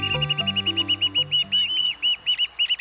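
American oystercatchers, crow-sized black-and-white shorebirds, call as the tide falls in Cape May, New Jersey: a rapid, quickening series of sharp, piping whistles, loud, with a low sustained tone fading out underneath at the start.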